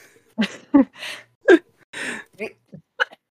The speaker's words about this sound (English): I've been having, like, this really bad cough I cannot get rid of since I've been sick. It will not go away. It's, like, a little tickle here, and it hurts so bad. So I apologize for coughing.